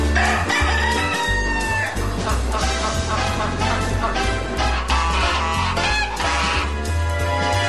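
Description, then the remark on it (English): A rooster crows loudly over a dense, steady music track with a thumping low bass line, the crowing calls standing out in the mix without any talking. “Except for the ducks, and the pigeons, and the rooster, and the geese.”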